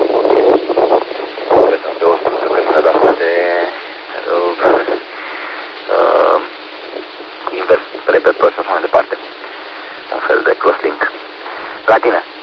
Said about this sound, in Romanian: cam bate vântul pe la tine pe acolo. Ai zis ceva cu invers repetor, dar n-am înțeles foarte clar.